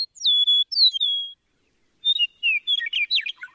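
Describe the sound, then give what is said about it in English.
An eastern meadowlark sings clear, slurred whistles, a sweet descending phrase, then after a short pause a second, more complex run of whistled notes, bright with no voices. “The eastern meadowlark's clear whistled music is the unmistakable anthem of eastern North America's farmlands and open country.”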